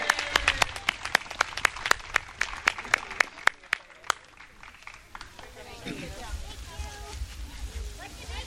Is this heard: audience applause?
yes